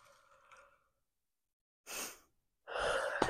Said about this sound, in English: I'm so sorry. I was yawning. I'm so tired today.